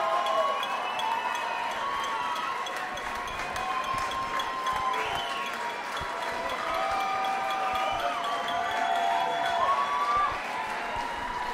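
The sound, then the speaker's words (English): A large concert crowd at the 9:30 Club cheers steadily for an encore for about twelve seconds, with shrill whistles and shouts rising over a dense roar and scattered clapping or stomping throughout, holding a constant level. “Crowd wants more.”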